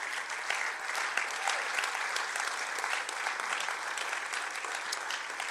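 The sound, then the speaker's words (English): Sustained applause from an audience fills the whole stretch, a dense, steady wash of many hands clapping at once with no voices standing out, moderately loud and even from start to finish. “Your clapping is very...”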